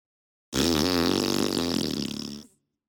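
A long, loud, buzzy fart lasting about two seconds, its low pitch wobbling and sputtering before it cuts off, heard on its own with no talking.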